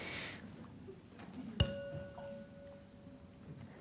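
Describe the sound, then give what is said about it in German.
A single bright clink of glasses touching, one holding grape juice, its clear ringing tone lingering and fading over a couple of seconds against quiet room noise. “Liebe Hörer, in dem Glas befindet sich Traubensaft.”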